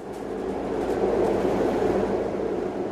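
A tram rolls steadily along its tracks in Berlin, travelling from the western district of Wedding to Hohenschönhausen in the east, a continuous rumble with a faint rattling texture that swells slightly midway and holds even throughout, with no voices.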